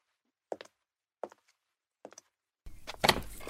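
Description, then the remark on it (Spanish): Three evenly spaced knocks on a front door, then the door is opened and a louder wash of outside noise rushes in. “La inspiración llama a mi puerta. Blanquita, no la hagas esperar.”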